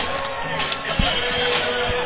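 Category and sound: crowd, stadium crowd cheering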